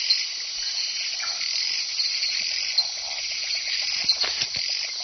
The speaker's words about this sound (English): She's heading towards the loudest call, because loud calls come from big frogs, and big is best.